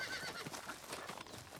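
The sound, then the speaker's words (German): Horse hooves clip-clop at a brisk, uneven pace over a rough, rustling background, fairly faint and moving away, with no voices; King Jakob turning his horse and riding off. “Damit wendete Jakob sein Pferd ab und ritt ohne ein weiteres Wort davon.”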